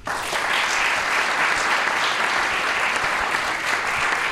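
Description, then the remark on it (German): Sustained applause from an audience for three guests, a dense, steady wash of many hands clapping at an even volume throughout, loud, with no voices standing out. “Und ich würde sagen, die drei, die sind noch einen Applaus wert.”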